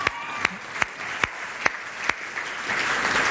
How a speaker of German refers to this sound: Wer von euch macht denn eine Ausbildung? Einer. Super, steh mal auf, gebt dem Kerl mal einen Applaus. Super.